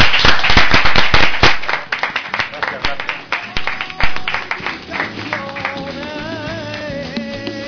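Loud, close applause from a crowd, dense rapid clapping that thins after about five seconds as music with a wavering melody comes in underneath.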